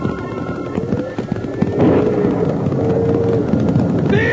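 A loud, continuous rumble of many galloping hooves as a herd of cattle on a cattle drive stampedes after a crack of thunder spooked them, dense and chaotic throughout, with faint bellowing cries rising over the pounding.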